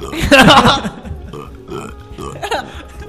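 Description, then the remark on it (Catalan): A person makes a loud, throaty pig-like grunting noise, a rough burst followed by a few shorter snorting grunts, with other voices murmuring faintly in the background. “Fes de porc. Diu que perfecciona molt la tècnica del porc, atenció.”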